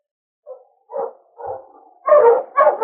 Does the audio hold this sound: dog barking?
yes